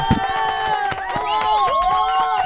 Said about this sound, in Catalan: Una forta aplaudiment